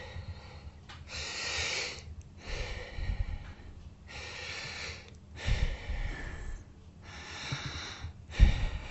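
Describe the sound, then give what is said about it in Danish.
Deep, slow breaths taken in and out through an open mouth while a doctor listens to the lungs at the back, about five or six airy inhale-exhale cycles in a steady rhythm, moderately loud, with no talking. “Og så skal jeg bede dig om at puste dybt ind og ud med åben mund.”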